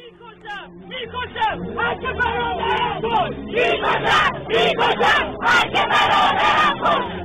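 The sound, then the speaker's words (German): Hundreds of protesters, led by Iranian students, demonstrate in San Francisco against the regime in Iran, chanting and shouting together, many voices rising in loud, rhythmic bursts that grow denser and more forceful toward the end, with a constant babble underneath. “Seit Montag schon demonstrieren in San Francisco jeden Tag Hunderte von Menschen gegen das Regime im Iran.”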